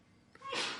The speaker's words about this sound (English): Bless you. And again, not really. Sneeze all you want, girl.